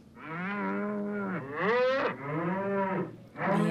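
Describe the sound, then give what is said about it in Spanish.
A cow moos loudly several times in a row, long drawn-out lowing calls with rising and falling pitch, with no talking. “Sí, la vaca. Sí, la vaca, muy bien.”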